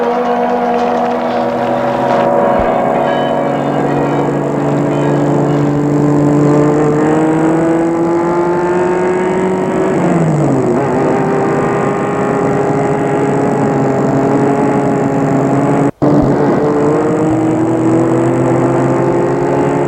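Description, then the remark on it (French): A car engine hums loudly and steadily as the car drives passengers to the train station, its pitch sliding down and back up with changes in speed, with no one talking and a brief click near the end. “Et Gilbert s'engouffre et prennent une voiture pour les mener à la gare pour prendre le train pour Paris.”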